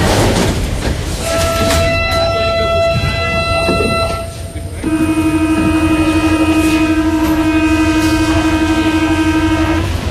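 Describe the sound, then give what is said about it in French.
A metro train moves through an underground station, its electric motors whining in loud, steady musical tones over a constant rumble. Partway through, the whine drops to a lower, sustained pitch. “Donc voilà, on va dans ce merveilleux quotidien, cet inaperçu et littéralement cet inouï, les Mozart du métro.”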